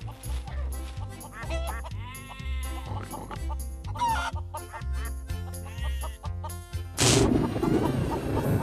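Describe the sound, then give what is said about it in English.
Hens clucking and a rooster calling in quick bursts over bouncy, steady background music, ending in a louder, noisy flurry of farmyard sound. “We have to feed these animals now. The hen, the chicks, the rooster, the duck, the goose.”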